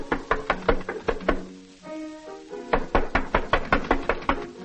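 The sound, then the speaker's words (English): Steady knocking on the wooden door of a modest home in Vienna by a visitor standing on the porch, sharp hollow raps in quick repeated bursts, with a brief pause in the middle where a soft tonal sound rings before the knocking resumes. “He does not realize that a friend has brought a stranger to meet him, and even now is standing on the porch, knocking on the door.”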